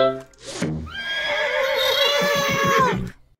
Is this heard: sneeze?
no